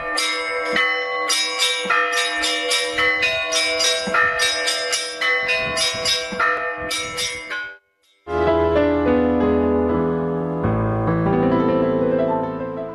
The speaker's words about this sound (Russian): Одновременно на всех приходах звучал колокольный звон в память о людях, погибших в годы Великой Отечественной войны.